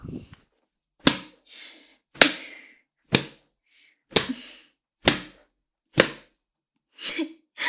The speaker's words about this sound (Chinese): 被你的母上大人这样用鞭子抽打着下面，爽吗？